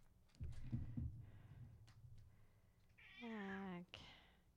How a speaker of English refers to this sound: Jack Handsome Cat. Disrupting the pod.